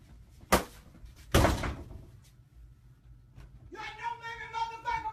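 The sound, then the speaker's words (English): Someone hits a door twice, a sharp thump followed by a heavier, booming bang that rings out briefly, then a raised voice starts speaking. “You hit the door?”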